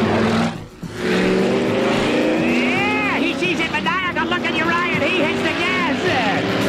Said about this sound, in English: He just gets into his car, starts it up, and drives away. But you saw him and you take off. He sees you coming and hits the gas.